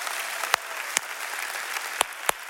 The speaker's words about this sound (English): And everybody here in Point Loma, clap your hands. Say hello. Happy Sunday.